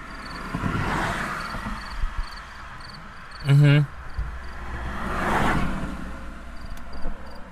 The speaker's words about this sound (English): the flashers have just gone out into just this buzz. Okay. Ah. I'm making a recording of what it sounds like to sit in a stranded car by the road.